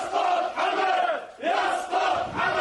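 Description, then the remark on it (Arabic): A large crowd at a popular protest march in Bahrain, marking the tenth anniversary of the 14 February 2011 revolution, chants slogans in unison, loud rhythmic bursts of many voices rising and falling in repeated phrases with short dips between them. “رغم الإجراءات الأمنية المشددة لمواجهة الاستعدادات الشعبية لإحياء الذكرى، تمكنت الجماهير من الخروج في تظاهرات عامة ويدرات وجزيرة سترة وكرباباد وعالي، ووصلت إلى العاصمة المنامة مرددين شعارات تشدد على الاستمرار بالحراك الشعبي حتى تحقيق المطالب المحقة”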